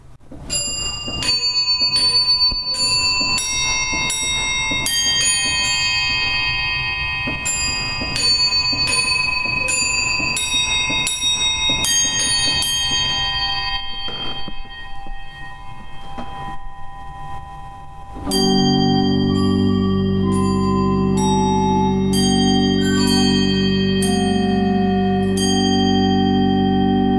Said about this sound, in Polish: Na początku audycji wspominałem Państwu o orkiestrze muzykujących aniołów, z których każdy wyposażony jest w dzwonek i młoteczek. Teraz chciałbym zaprezentować Państwu ich brzmienie.